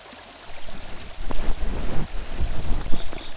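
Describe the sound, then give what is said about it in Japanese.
Gentle water lapping and sloshing at night under the stars, a steady wash of small waves with soft splashes and a faint breezy hiss underneath, no voices. “こうやって星を見ながら水の音に包まれていると眠たくなっちゃいますね。”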